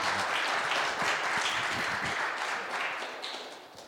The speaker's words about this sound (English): Yes, you can give some applause. That was pretty weak. How about some more applause? Come on, guys.